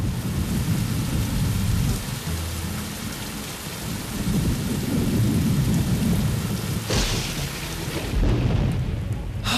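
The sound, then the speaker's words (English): A thunderstorm rages with steady heavy rain and deep, rolling thunder rumbling continuously in the low end, loud, with a sharp crack near the end. “The big storm is here.”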